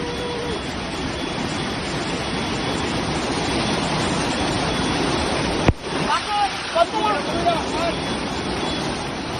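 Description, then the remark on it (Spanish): A loud, steady roar of rushing floodwater from torrential rain fills the first several seconds, then cuts off abruptly with a sharp click, followed by people talking over quieter flowing water. “Intensas trombas de agua que han dejado riadas, casas, garajes y bajos inundados, coches también atrapados y muchas personas que han tenido que ser rescatadas de varios camping y de sus propias casas,”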